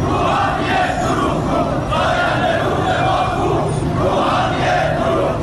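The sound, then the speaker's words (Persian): A large crowd of farmers in Iran chants protest slogans in unison against the transfer of their Zayandeh Rud river water to Yazd, loud and continuous, the rhythmic shouted phrases rising and falling in waves across the whole stretch. “سال اعتراض‌های شهروندان به بی آبی و مدیریت نامناسب آب و انتقال آب از استانی به استان دیگر، از خوزستان گرفته تا فارس و اصفهان، با کشاورزانی که در اعتراض به انتقال آب زاینده رودشان به یزد دست از اعتراض و تجمع و شعار بر نداشتند.”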